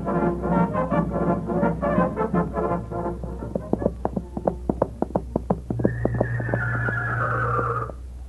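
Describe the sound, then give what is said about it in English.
A loud horse whinny sound effect for a radio horse opera, with a shaky, drawn-out call, then a run of sharp clip-clop hoofbeats, ending under a steady low hum and a high whistling tone. “Radio's most famous horse analogy”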